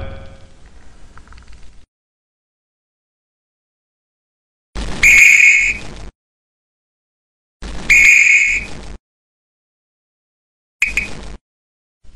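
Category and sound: signal or alarm, whistle being blown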